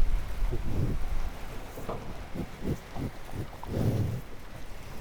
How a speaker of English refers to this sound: And with that close to this friendly cow, that we can hear her munching the silage.